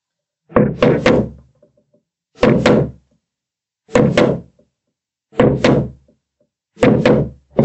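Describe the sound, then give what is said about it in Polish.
A hammer strikes a chisel in five evenly spaced rounds, each a quick double knock with a woody, thudding body and a bright edge, ringing briefly before the next. “Czy młotkiem, może młotkiem będzie bezpieczniej.”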